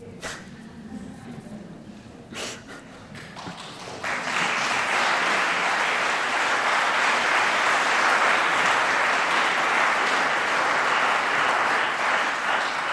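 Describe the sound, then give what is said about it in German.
Scattered clapping at first, then a full audience bursts into loud, sustained applause, a dense, steady roar of many hands. “Ich freue mich über den Applaus, weil er zeigt, dass wir uns engagieren wollen, aber es ist schwer genug.”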